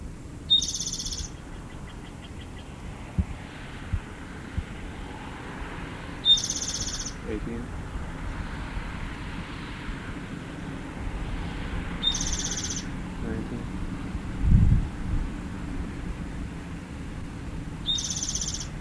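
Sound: bird calling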